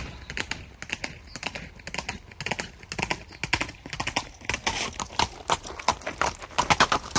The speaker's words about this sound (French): L'identification de ce son, Michel Denisot. C'est le galop des chevaux sur des pavés.